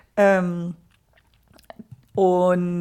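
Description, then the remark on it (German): Two pet cats fighting: two drawn-out, loud yowls with a rising, whining pitch, separated by a stretch of light clicking and rattling clatter. “Entschuldigung, wenn es hier klappert, meine Katzen schlagen sich gerade.”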